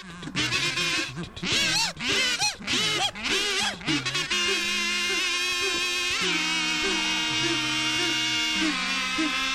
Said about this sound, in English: Here are some kazoos.